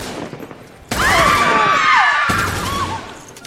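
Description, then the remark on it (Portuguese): After a second of low background noise, a loud burst of rapid machine-gun fire, shot into the air inside a Stockholm bank, erupts and rattles on for about two and a half seconds, with whining, ringing tones over it, harsh. “Unha serie de disparos ao aire dunha ametralladora tiraron ao chan.”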